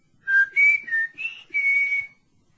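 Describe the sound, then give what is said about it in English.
A person whistles a short five-note signal for when the coast is clear, each note bright and slightly wavering, the last one held longest before it trails off into silence. “When the coast's clear for a further conference, give me a whistle. Like this.”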